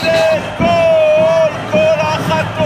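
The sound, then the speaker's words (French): A loud crowd of hundreds of Israeli protesters at an evening street demonstration in Tel Aviv, Israel, calling for an end to the war in Gaza, voices rising in rhythmic bursts of shouting and chanting, with a sustained high-pitched tone running through the noisy din. “Ce soir encore à Tel Aviv, des centaines d'Israéliens manifestent pour demander la fin de la guerre à Gaza.”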